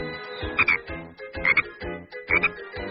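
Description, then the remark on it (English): Frogs croak in a steady chorus, with three louder, raspy croaks rising out of it about a second apart. The calls are fairly loud, and no one speaks. “They will grow into big frogs.”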